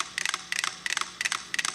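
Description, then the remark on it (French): Five metronomes on a shared base set on a can tick together while synchronizing, their crisp, bright clicks bunching into tight clusters that repeat steadily about three times a second, almost but not quite in unison. No voices. “Et quand on met le socle sur la canette, les métronomes communiquent.”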